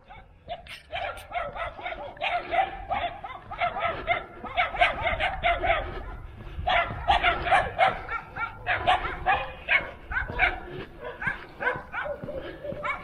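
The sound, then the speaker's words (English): Several stray dogs, looking like puppies, bark in the countryside in a continuous, overlapping chorus of sharp, repeated yaps and woofs, loud, with barely a pause throughout. “We have lots of stray dogs in particular out here in the countryside.”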